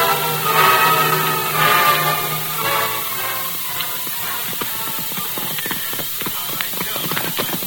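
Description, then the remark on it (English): Horse hooves clip-clop down a trail in a quick, uneven series of sharp knocks, with a brief tonal sound at the start before the hoofbeats carry on alone. “Leave the horses here, Tonto.”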